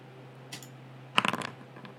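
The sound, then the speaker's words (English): Dice rolled onto a hard surface: a single faint tap, then a quick burst of small clattering clicks that settles within a fraction of a second, over a low steady hum. “Oh, that's not a great roll. What is with the dice today?”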